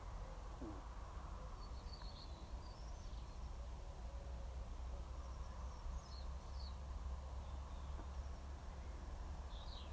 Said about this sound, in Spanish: Oigo pájaros y algún coche a la distancia.